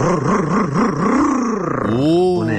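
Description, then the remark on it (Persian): A voice mimics the revving of a boosted, tuned-up car engine, a loud throaty growl that wobbles up and down in pitch, then sweeps upward in rising bursts like an engine climbing through gears. “قربونت موتور تقویت کردم ببین چیکار میکنه.”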